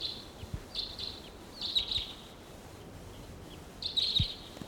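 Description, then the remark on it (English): Several wild crossbills call around the perimeter of a small gulch where crossbill decoys are calling; short bursts of sharp, high chip notes, some doubled, spread over several seconds against a quiet background with occasional low thumps. “There's a crossbill looking down at the decoys here, sitting on top of a juniper”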